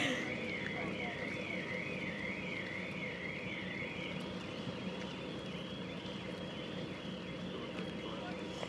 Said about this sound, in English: This car alarm's going off on ferry.